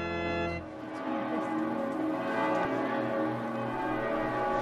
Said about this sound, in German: Dämmerung über der ewigen Stadt, die Glocken von Maria Maggiore läuten, als die Prozession Benedikts XVI. Mit dem Allerheiligsten sich nähert.